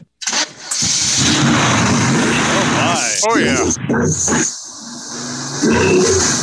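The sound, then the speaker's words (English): A car engine cranks and fires up, then settles into a loud, steady rumble, with brief exclamations from people talking over it. “And of course, I can start it up for it if you want. So you can hear the engine. Does it rumble?”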